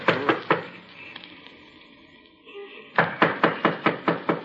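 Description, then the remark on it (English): Knocking on a wooden door with a doorplate on Milton Avenue: three quick knocks, a pause of a couple of seconds, then a longer run of about seven brisk, evenly spaced knocks, fairly loud. “Well, knock on the door anyhow.”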